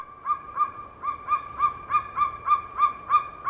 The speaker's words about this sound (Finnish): Viikon luontoääni on maakotka. Monet kertovat sen nähneensä, mutta oikeasti näin ei ole, sanoo Pertti Koskimies.